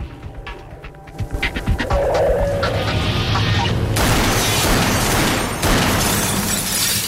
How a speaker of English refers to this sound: He heads towards the bathroom, where the water is running in the shower. Standing outside the cubicle door, he fires a number of shots into the shower.